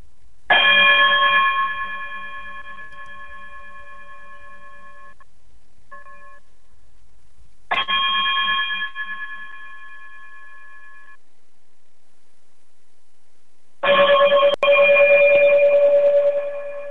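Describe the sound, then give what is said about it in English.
A bell-like chime rings out three times as a sign-off, each strike bright and resonant with a long, shimmering decay, spaced several seconds apart with no talking. “if you will, chime us out of here.”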